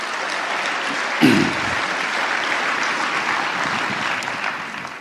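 A crowd gives itself a big round of applause, a dense wash of many hands clapping that holds at an even loudness for the whole stretch, with a brief low thump near the start.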